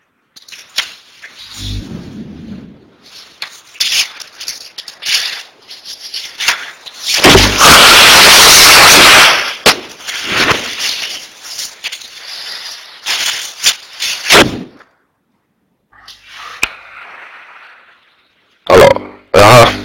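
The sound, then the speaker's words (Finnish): A loud, harsh nose blow picked up by a microphone that was left on, lasting about two seconds, a noisy honking rush of air, surrounded by scattered rustles, sniffs and clicks with no one speaking. “Se tuli se niistäminen sitten äänen kanssa.”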